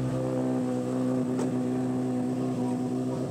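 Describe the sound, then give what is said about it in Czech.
A rally car engine drones loudly and steadily as another car arrives, its rough, buzzing tone holding an even pitch for a few seconds with no voices over it. “Ale už tam přijíždí další auto.”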